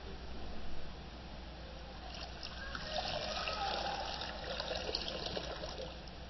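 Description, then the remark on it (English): Water trickles and splashes steadily into a baptismal font during a baptism, a soft continuous pouring with bright gurgling spatters, heard alone without any voices. “Blessed by your Holy Spirit, gracious God, this water.”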